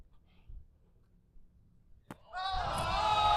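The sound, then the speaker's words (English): A single sharp slap of hands meeting a volleyball in a set, crisp, followed almost immediately by a loud swell of crowd cheering and noise. “Perfect set.”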